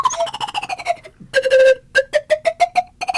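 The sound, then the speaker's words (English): A slide whistle plays a bright, reedy tone that glides downward, then breaks into a run of short, rapidly tongued staccato notes at a fairly steady pitch. No voices are heard. “I've never played a slide whistle before.”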